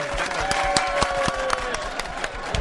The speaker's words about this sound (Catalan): I per els 10 oients que ens han acompanyat avui. Sisplau, els dediquem un aplaudiment, no? Un aplaudiment també per vosaltres.